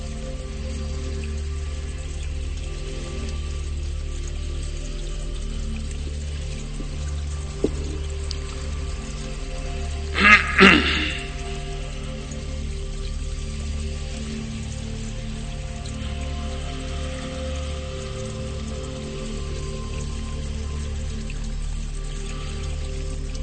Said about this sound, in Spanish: Justo en un manantial, un brote de agua de la madre naturaleza. Visualizamos el proceso, cómo el agua cae a través de la lluvia, cae del cielo.